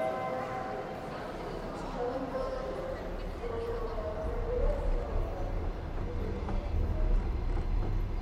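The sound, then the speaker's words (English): A steady, continuous low rumble inside a moving overnight train carriage bound for Odessa, constant throughout and growing slightly louder, with muffled voices faintly underneath. “The funny thing is that we have this interview now in the train,”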